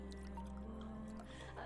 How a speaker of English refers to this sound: He places a glass in front of her and grabs a bottle. What'll it be? He pours.